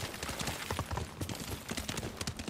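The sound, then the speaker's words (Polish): Steady clip-clop of horse hooves at a brisk riding pace in a video game as the rider heads toward a fort, fairly loud, a continuous run of sharp thuds with no talking over them. “Więc słuchajcie, tutaj sobie jadę teraz, bo zauważyłem taki fort. Aha, tylko koń przez to nie przejedzie, tak?”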